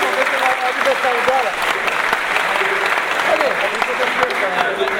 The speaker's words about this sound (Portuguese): eu queria pedir uma salva de palmas a ela. Muito obrigado.